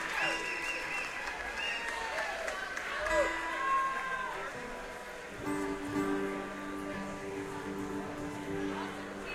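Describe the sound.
An audience applauds steadily for several seconds, a dense patter of many hands with scattered voices and cheers mixed in, while instruments and a few tones ring out underneath.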